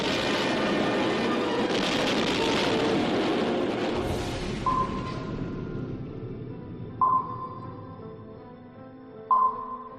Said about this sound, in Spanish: poniendo HMS Barham, vas a ver y a oír la explosión y el hundimiento de un barco de guerra británico en la Segunda Guerra Mundial. Fue el 25 de noviembre de 1941 y este que vas a oír es el sonido original del momento de la explosión.